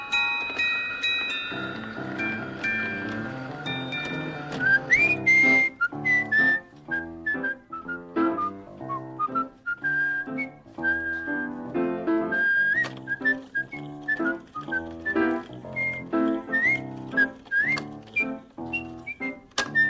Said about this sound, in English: It is so much fun to whistle.